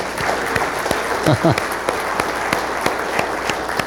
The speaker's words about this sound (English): You're going to have to clap for each person here.